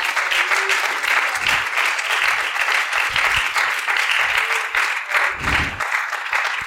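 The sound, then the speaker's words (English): An audience claps their hands unto the Lord in the morning, in sustained, dense applause, a steady loud wash of overlapping claps with no single rhythm, lasting throughout with no talking. “Would you clap your hands unto the Lord this morning?”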